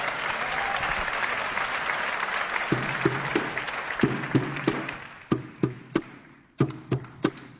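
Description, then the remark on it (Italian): A crowd bursts into dense, steady applause that gradually thins out, giving way to a few sharp, evenly spaced claps or beats near the end. “Accogliamoli con un applauso.”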